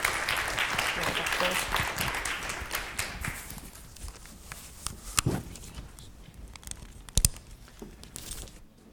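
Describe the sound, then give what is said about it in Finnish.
An audience applauds a speaker being introduced for a talk on cultural heritage and local heritage work, in a dense, steady patter for about three seconds, then the clapping thins out and dies away, leaving a few scattered knocks and rustles. “Aplodit.”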